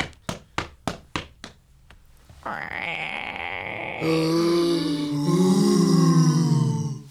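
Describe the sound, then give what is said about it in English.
Six quick, sharp knocks on a door in a steady rhythm, followed by a loud, drawn-out voiced growl that swells and rises in intensity. “I think somebody's at the door. Somebody answer the door.”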